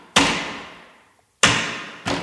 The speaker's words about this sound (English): Some table hits. Yeah. Yeah. That actually sounds sick with the reverb.